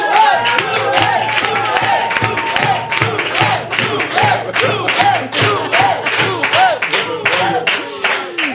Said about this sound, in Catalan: Rebeu un fort aplaudiment a Joel Joan!